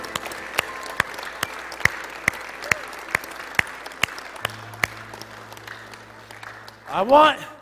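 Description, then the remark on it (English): An audience at a church service claps for the Lord in sustained, dense applause, with sharp accented claps landing at a steady beat throughout. Near the end a voice cries out over the fading clapping. “Let's give the Lord a big clap today, huh?”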